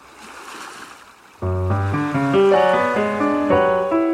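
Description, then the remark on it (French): A soft, steady wash of surf breaking on a shore, heard alone for a moment before loud, sustained instrumental music swells in and covers it. “Des enfants sautent à la marelle au rythme des vagues.”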